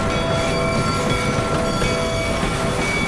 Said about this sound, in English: Now he was lying in the light of the train, which was pulling into the station no more than 50 yards behind him.